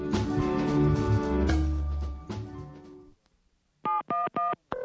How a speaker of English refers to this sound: I have her phone number, but I was told to dial 711.